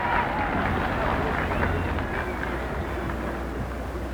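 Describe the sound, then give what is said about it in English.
A large crowd applauds as a man stands at the speaker's stand, at a ceremony with President Eisenhower, Vice President Nixon, new Vice President Lyndon Johnson and the Chief Justice. A dense, steady roar of clapping holds at an even loudness throughout, with a murmur of voices mixed into the noise. “Stands at the speaker's stand as the audience gives him an enormous burst of applause.”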